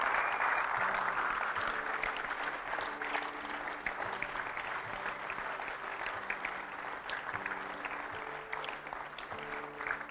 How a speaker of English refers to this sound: We're all clapping because we're so excited.